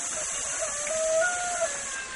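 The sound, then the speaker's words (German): Chickens pecking in the sand of a riverbank at the hamlet of Caserío del Puente give a few drawn-out clucking calls over a steady, broad rushing hiss of the river water flowing over rocks. There is no talking. “Hier spielen Kinder am Fluss, Frauen waschen Geschirr, Hühner picken im Ufersand, Schweine suhlen und baden sich.”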